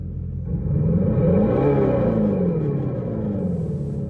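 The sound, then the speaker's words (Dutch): A deep, rumbling artificial engine roar from an electric Dodge Charger muscle car, played through a very large loudspeaker fitted to the car, swelling as it revs up then easing back down, loud with no voices. “Dat was dus het geluid van een elektrische Dodge Charger.”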